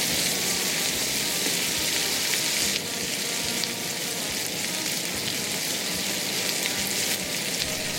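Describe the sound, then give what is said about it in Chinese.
Steady, loud sizzling of red chili and minced garlic being stir-fried together in hot oil in a wok, a continuous crackling hiss with faint stirring movement and no talking. “将油倒入锅里面以后，稍微有点点热度，就把红辣椒还有蒜末加巴巴的把它放到锅中里一起拌炒。”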